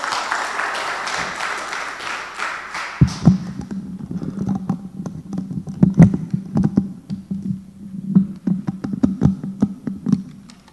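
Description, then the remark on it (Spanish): A church audience claps hands for God in a dense burst that quickly dies away, leaving scattered sharp claps over a low, steady hum. “Démosle fuerte palmas a nuestro Dios, mis amados hermanos.”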